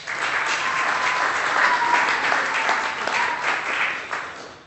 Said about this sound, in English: So, well done. So, give yourselves a clap.